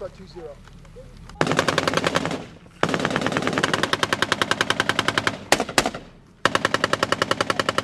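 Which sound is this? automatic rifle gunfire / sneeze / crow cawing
automatic rifle gunfire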